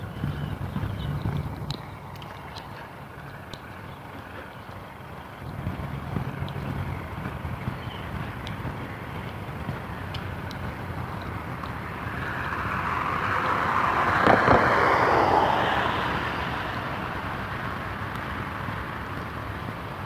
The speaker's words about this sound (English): there's an interesting buggy coming down the street. A tractor hauling some kind of equipment I can't see.